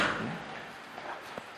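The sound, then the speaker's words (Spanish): A door being opened: a soft, scraping rush of movement followed by a couple of faint knocks, fairly quiet, with no talking. “Voy a abrir la puerta aquella que nos vamos a asar aquí.”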